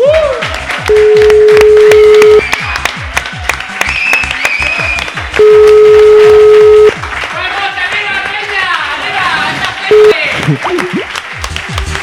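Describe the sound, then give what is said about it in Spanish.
A crowd applauds loudly and steadily for the whole stretch for former president Puigdemont, with a few long, steady tonal blasts like horns cutting through and voices cheering in the mix. “Os pido un fuerte aplauso para el expresidente...”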